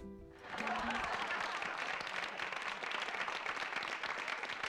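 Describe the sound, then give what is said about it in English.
A clapping sound effect: a burst of applause from many hands, starting abruptly after a brief moment of quiet and holding steady as a dense, loud, crackling wash of claps throughout. “How many clap sounds do you have?”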